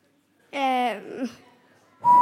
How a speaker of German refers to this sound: Nein, also muss ein Pfeifton rauskommen, so.